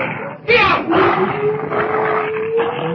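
Wolves going after dogs howl in a long, steady, slightly rising wail, with a harsh burst of snarling and growling near the start and rough, noisy texture running underneath.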